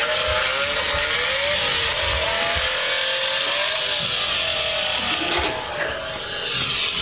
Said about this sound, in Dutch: Ze werd heel erg boos en gaat er vandoor in haar auto uit 1967.